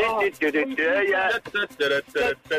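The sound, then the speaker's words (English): A person, asked to hum the Blue Peter TV theme, hums a short, bouncy tune, the voice rising and falling in clear melodic phrases separated by brief breaths and pauses. “Hum me the Blue Peter theme.”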